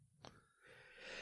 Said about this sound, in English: God bless you. Sorry, that was a sneeze. I know that confuses people sometimes.